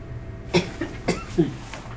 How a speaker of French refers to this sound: Et c'est depuis ce soir que vous toussez comme ça, que vous avez ces glaires ? Oui, il y a un moment que je tousse, vous savez. Et plus ce soir, c'est ça ?